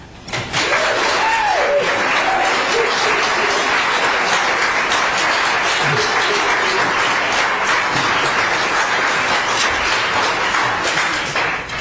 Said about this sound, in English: I'd like to ask those who are doing all the clapping and what have you to please not do that. We have other people sitting in this room that don't appreciate that.